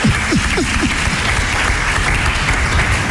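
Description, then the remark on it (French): A crowd claps steadily in a dense, continuous wash of applause, loud and even throughout, with a few brief vocal cries or whoops rising at the start, applauding a woman as she is introduced. “Qu'on peut applaudir aussi. On peut applaudir.”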